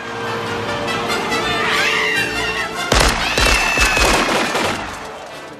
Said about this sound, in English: Pedestrians dive out of the way as Richter and Helm open fire at the cab, which spins in wild circles. Leaning on the control stick, Quaid ducks as the front windshield shatters.